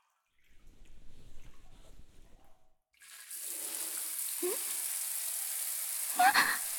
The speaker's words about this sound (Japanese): まずはシャワーを。